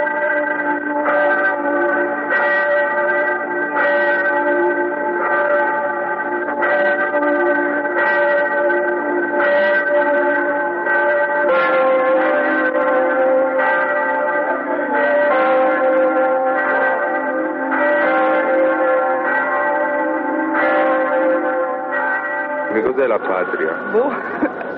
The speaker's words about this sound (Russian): Венеция у нас пока что почти не звучала. Между тем, без этого фона, венецианского фона, портрет обитателей палаццо был бы совсем другим.